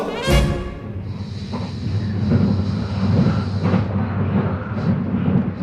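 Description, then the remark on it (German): Steady low rumble of a moving train on its way to Karlsruhe, heard from inside a carriage, with a dense continuous drone, a faint high whine, and an opening thump or jolt, no voices. “Ich sitze im Zug, schaue meine Notizen durch.”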